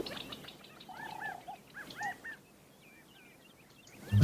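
Several birds chirp and whistle in short, arching calls, along with crickets, over a quiet outdoor hush, busiest in the first two seconds, then fainter and sparser, ending with a low thump.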